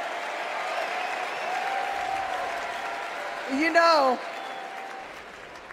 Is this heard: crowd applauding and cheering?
yes